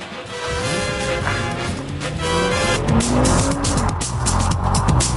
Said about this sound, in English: Oh, it took a while to get that car going there.